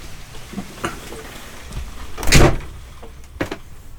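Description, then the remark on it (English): Ice breaking and falling off trees during an ice storm in Virginia: a few faint, scattered cracks, then one loud crashing burst midway and another sharp crack near the end, over a low rustling background. “But it's kind of cool because you can hear the ice falling off the trees.”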